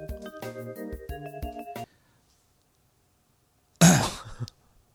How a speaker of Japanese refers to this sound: 咳で繋ぐなよ、お前。お前さ、ごめん、沈黙あったら、俺、後で編集しとくから、無理やり咳で繋ぐのやめてもらっていい？